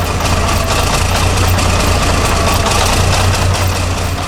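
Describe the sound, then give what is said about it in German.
A bulldozer's heavy diesel engine rumbles steadily and loudly, its deep low throb pulsing with a slight rhythmic chug throughout, with no voices present. “von hinten auf das dröhnende Baufahrzeug gesprungen und riss die Tür der Fahrerkabine auf.”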